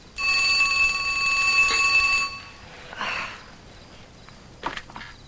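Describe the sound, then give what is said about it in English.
A telephone rings loudly in one sustained two-second burst, then stops, followed by soft rustling and a brief click as the receiver is picked up by a woman who has just woken and turned on a lamp. “She awakens, turns on a lamp, then answers the phone.”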